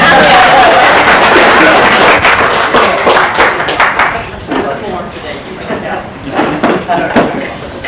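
A burst of audience applause at a Saturday afternoon meeting in a bookstore on April 4, 1992, dense and loud for about four seconds, then thinning into scattered, fading claps with a few louder individual hand claps near the end.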